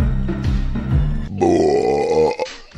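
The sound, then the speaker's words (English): A long, loud belch fills nearly three seconds, starting low and gravelly before rising into a strained, tonal croak, overpowering with no talking. “Yeah, it's like belch was so loud it distorted my earbuds.”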